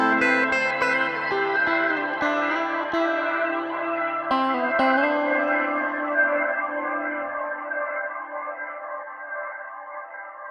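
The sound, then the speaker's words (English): A sustained shimmer guitar wash made with an aux send feeding a reverb through a pitch shifter plugin raised one octave, followed by a rotary speaker emulation plugin for swirling motion. Several sharp plucked attacks early on fade into a long, bright, slowly decaying pad, with no voices. “set up an aux send that feeds a reverb via a pitch shifter plugin set to increase the pitch by one octave”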